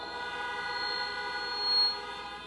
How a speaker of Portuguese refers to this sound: E agora uma buzinada. Ele veio o quê? Um som!